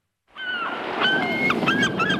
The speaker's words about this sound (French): Pas forcément, mais en tout cas, il y a quand même quelques mouettes qui se baladent chez nous en Touraine et on est très heureux d'entendre ce son